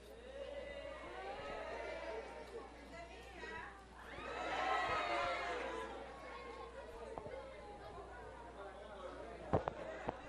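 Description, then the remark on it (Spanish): An audience applauds at a ceremony honoring a sign language teacher, amid loud crowd chatter and cheering voices, the noise swelling in the middle before settling back into a steady hubbub, with a couple of sharp knocks near the end. “Otro aplauso.”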